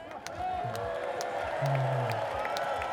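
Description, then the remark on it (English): A large audience at a live concert with a band cheers and claps steadily throughout, a dense wash of noise with scattered sharp claps and a few whoops and shouted voices mixed in. “And if the guys in the band would like to meet you guys, so guys, this is the crowd.”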